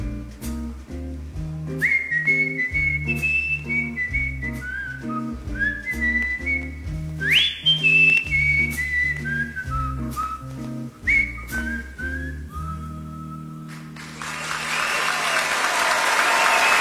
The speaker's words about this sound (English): Sammy Davis Jr., 1985, Germany. Listen to that crowd.